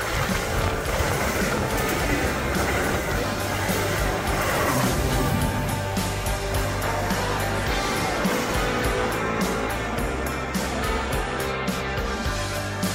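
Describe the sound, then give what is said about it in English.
A heavy Metro Express commuter train roars steadily through a station without stopping, a loud, continuous rumble of wheels and rushing noise with metallic clatter, sustained throughout without slowing. “The next Metro train approaching your station will be a Metro Express train and will not stop.”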